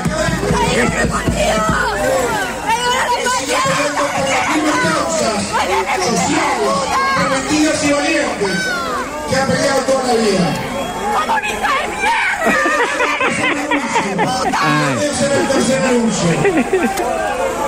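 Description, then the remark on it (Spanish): A crowd of blonde women from the Partido Nacional who were not chosen shout and yell in protest at the presidential candidate's pick, many overlapping voices clamoring loudly and continuously, with no pause in the uproar. “Son de las rubias que no ganaron, señores, los gritos esos.”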